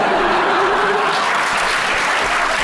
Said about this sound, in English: Honestly, I love that you clap.